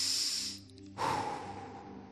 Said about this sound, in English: And I want you to take a very deep breath. Just breathing through your nose, a deep breath.